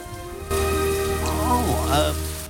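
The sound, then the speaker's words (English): Heavy storm rain in a Wallace and Gromit story starts abruptly as Wallace opens the door, a dense steady hiss and patter that continues loudly for about two seconds before cutting off; a wavering, whiny tone rises and falls faintly over the downpour. “Gromit's ears sag at the prospect of venturing out in the storm.”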